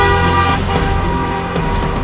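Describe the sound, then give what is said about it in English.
Several car horns honk at once in steady, overlapping blasts, loud, with the hum of idling traffic underneath and no one speaking, on congested streets around Trafalgar Square during a marathon. “And they're building up an impatient queue of traffic behind them.”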